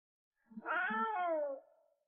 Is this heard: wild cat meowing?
yes